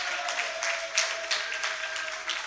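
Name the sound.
audience clapping hands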